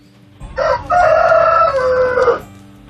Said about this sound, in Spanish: Es el despertador que me levanta todas las mañanas, así de claro, el gallo Paquito.